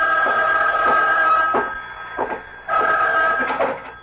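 A telephone rings in two long, warbling bursts separated by a short pause, fairly loud, with no one speaking.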